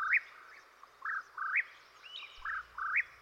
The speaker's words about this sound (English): Listen to this bird tiresomely repeat its name. In fact, the whippoorwill repeats its song over and over again until daybreak, flitting among the trees of its territory, catching all kinds of insects, especially moths.